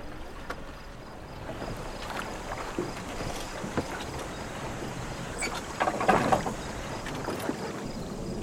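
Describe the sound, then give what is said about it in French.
Someone climbs aboard a small sailboat from the side, gripping the shroud: hollow thumps and knocks against the hull, creaking fittings and gentle water sloshing, with a busier burst of bumps near the end. “Saisissez le hauban et montez par le côté.”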